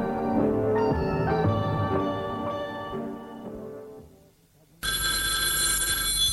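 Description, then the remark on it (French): Soft tonal music fades out, then a loud, shrill telephone bell abruptly starts ringing and keeps ringing continuously until the end. “Un jour, elle lui téléphone.”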